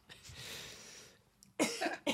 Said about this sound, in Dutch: Nou, ga jij even kuchen.